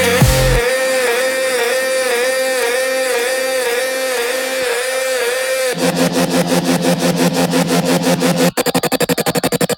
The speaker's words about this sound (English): Only the sound of the engine I hear.